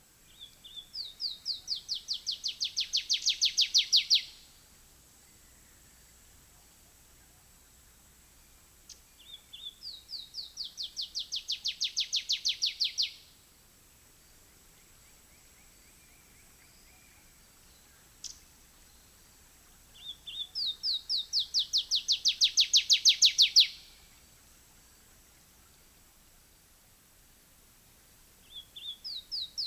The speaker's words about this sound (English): showing their buff rumps, they would vocalize. And so I have the stereo recording, or remember the stereo recording, of the warblers moving past me, from coming from the right, moving downstream to the left, one bird and then two birds.